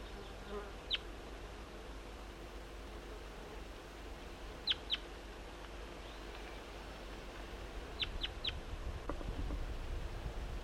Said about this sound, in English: Start recording the wild bird again. Stop. I see the bird. It's a wild juvenile. And I don't think this one has a band.